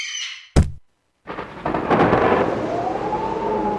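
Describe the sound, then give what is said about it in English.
A brief chirp gives way to a sharp, loud thunderclap, a moment of silence, then a long rolling rumble of thunder over steady, hissing rain. “Then a terrible storm comes along.”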